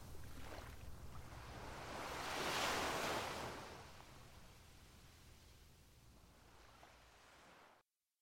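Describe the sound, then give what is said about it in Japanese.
Ocean waves break on the shore, carrying a surfer; one wave swells into a loud, hissing crash and then recedes into a softer wash of surf. No voices are heard. “波はサーファーを乗せながら僕の足元までやってきて、そう言ったかと思うと消えた。”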